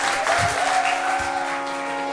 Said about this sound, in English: Give everybody a clap that came forward.